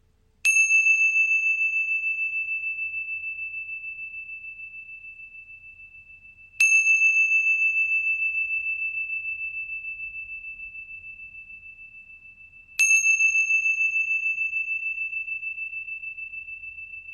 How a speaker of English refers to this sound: Now wiggling your toes and your fingers, hearing the sound of my chimes all the way to the end, and then coming back into the space.